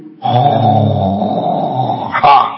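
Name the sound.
voice imitating snoring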